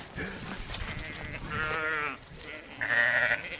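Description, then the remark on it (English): Several dairy sheep of the Friesland and Lacan breeds bleat in overlapping calls, a wavering mid-pitched bleat in the middle followed by a louder, higher, sustained cry near the end, with no talking. “We have two breeds here. We have Friesland and Lacan. They're specific dairy animals.”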